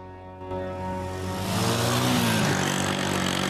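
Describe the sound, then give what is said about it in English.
A classic motorbike engine drones steadily as it is ridden along a road snaking through sandy hills on the edge of the Sahara in Egypt, its pitch rising as it picks up speed and the sound thickens, with no voices over it. “riding a classic motorbike along a road snaking through sandy hills.”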